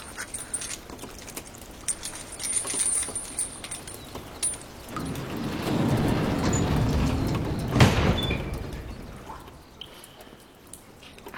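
A door is opened: a low rumbling slide swells for a few seconds and ends in a sharp clunk, with faint background noise and no talking.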